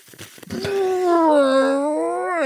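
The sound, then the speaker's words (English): A voice imitates an older man's long, loud, whoopee-cushion-style fart: a sustained, buzzy, wavering tone lasting about two seconds, sliding slightly lower in pitch before lifting at the end. “Or just a very loud, great kind of whoopee cushion style fart.”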